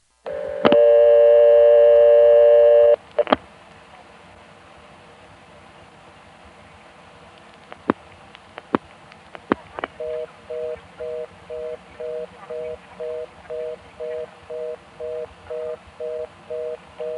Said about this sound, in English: Now that sounded very much like a number one ESS, so that probably is Fredericksburg. If so, it would mean that Fredericksburg has more than one reorder tone, because previously we heard this.